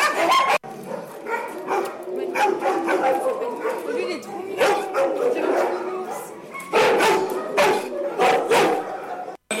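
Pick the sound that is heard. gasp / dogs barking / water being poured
dogs barking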